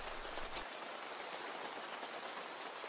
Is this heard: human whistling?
no